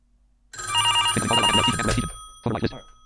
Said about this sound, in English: And that goes like this. Pick up on my rotary phone.